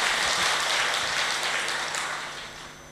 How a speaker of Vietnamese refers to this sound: Rồi, cảm ơn cô, cho một tràng vỗ tay khích lệ.